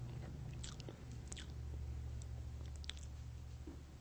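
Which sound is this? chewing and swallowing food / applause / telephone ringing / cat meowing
chewing and swallowing food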